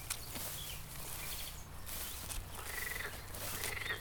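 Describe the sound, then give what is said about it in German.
A dense chorus of frogs croaking loudly at a pond while mating on mild days, layered and continuous with overlapping rattling calls and occasional higher chirps, steady in loudness throughout. The pond lies among meadows, a small stream, big trees and bushes, hidden behind tall grasses. “Die Frösche haben mit ihrem lauten Quaken und der Fortpflanzung begonnen.”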